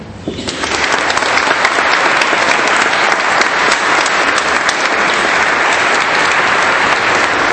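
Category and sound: crowd, applause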